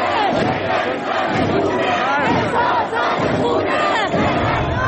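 A large crowd inside a metro in Iran chants the slogans of the recent protests together, many voices shouting in a loud, steady rhythm with rising and falling cries that fill the whole clip without pause.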